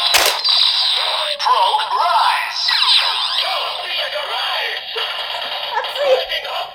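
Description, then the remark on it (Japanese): Electronic sound effects from a card-type Progrise Key toy transformation key as its switch is pressed: a sharp burst, then a steady run of buzzy synthetic noise with warbling, sweeping tones lasting several seconds at a fairly loud level. “で、ここを変身するときは、こういうか、あの、カード型のキー、プログライズドキーというのがありまして、これをスイッチを押す。”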